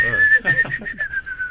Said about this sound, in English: Is that your nose whistling again?